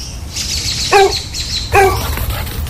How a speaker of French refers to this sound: Maman! Le chien est encore sorti de la cour.